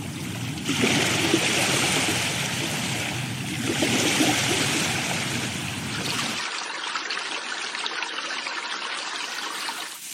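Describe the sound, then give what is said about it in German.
A babbling stream, played as a nature-sounds alarm clock, rushes steadily and full. Partway through, the deep rumble drops away, leaving a thinner, brighter trickling that runs to the end. “Am Anfang dachte ich so, oh, da drückt die Blase aber auch direkt bei dem Geplätscher.”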